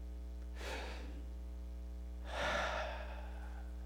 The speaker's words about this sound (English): He took a deep breath.